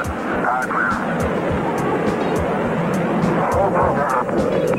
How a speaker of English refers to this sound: On this day in 1983, Space Shuttle Challenger lifted off on the 8th shuttle mission. We have engine start, 2, 1, 0. We have ignition, and we have liftoff. Liftoff, 32 minutes after the hour, and the shuttle has cleared the tower.